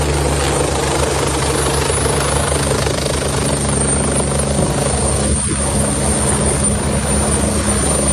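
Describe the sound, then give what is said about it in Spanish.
A firefighting helicopter, roomy enough inside for up to 10 firefighters, hovers while collecting water in its huge bucket to drop on a fire, a loud, steady rotor roar and engine whine filling the whole clip with a constant rumbling drone and no voices. “Así suena cómo recoge el agua para poder acudir al incendio y dejarla caer sobre el fuego.”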